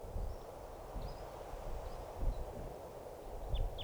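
Faint, short high-pitched call notes from decoy crossbills as a wild crossbill comes in, recorded at 12:25, come in scattered bursts over steady rustling wind noise, with a sharper downward chip near the end.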